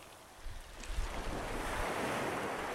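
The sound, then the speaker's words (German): Ocean waves wash and break onto a beach in a steady, broad rush of surf, swelling louder after the first moments, with some wind buffeting the microphone and no voices. “Wenn die Wellen zu hoch sind, nimmt sie Bobo auf den Arm.”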